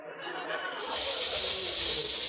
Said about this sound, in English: Von Zell, are you hissing me? No, Mr. Crane. It's just that I think the coffee table sprung a leak or something.